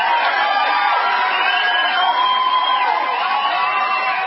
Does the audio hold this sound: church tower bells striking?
no